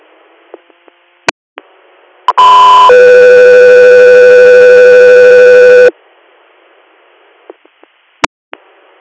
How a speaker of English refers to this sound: Air, stand by for tones.